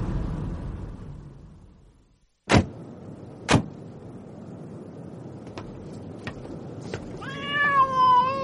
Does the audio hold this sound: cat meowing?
yes